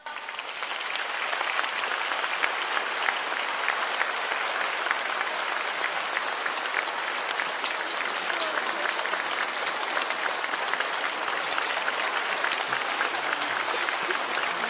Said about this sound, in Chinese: 现在让我们用最热烈的掌声恭请尊敬的卢军红台长。